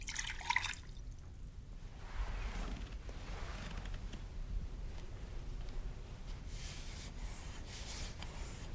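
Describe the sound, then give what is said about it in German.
A tea whisk swishes and scrapes against the inside of a tea bowl, rinsing it with clean water, producing a soft, continuous rubbing and light sloshing with faint drips, quiet, with no talking. “Mit dem reibt so Yumo Kai die Teeschalen ab. Fegt sie gewissermassen mit sauberem Wasser.”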